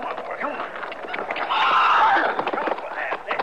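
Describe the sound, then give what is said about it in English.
A horse whinnies loudly for about a second, with hooves clopping and shuffling around it and faint voices in the background; the horse has just gone down hard and is being checked and urged to stand, out in open country. “How about the horse, Chester?”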